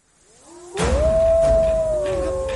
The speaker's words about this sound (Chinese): 这什么呀？ 狼群，是狼群，快快走，进峡谷！